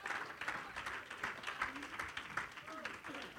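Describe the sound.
An audience at a bilingual church service claps their hands for the Lord in a steady, dense burst of applause lasting the whole moment, with voices talking and calling out over the clapping.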